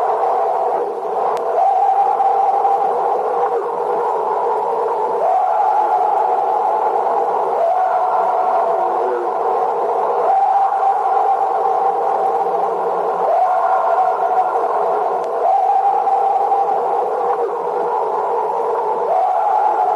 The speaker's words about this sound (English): She said she stood on her back porch with the recorder as the Sasquatch began its high-pitched scream. Here now is an excerpt of that audio tape.